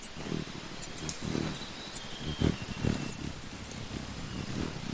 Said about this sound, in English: This place is home to over 400 bird species, including this black-breasted pufflig, a blue-green hummingbird with white leg feathers.